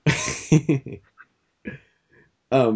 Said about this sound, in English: It's the coughing and the tapping.